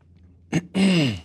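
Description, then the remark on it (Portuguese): A person clears their throat in two rough bursts, a short harsh cough-like push followed by a longer, voiced rasp that drops in pitch, with no talking around it. “Desculpa que eu estou com um pigarro.”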